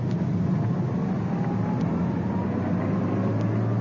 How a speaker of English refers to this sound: Coming up to the corner. There's the suspect's car casually driving by. Back down the street about 300 yards, the other undercover car following.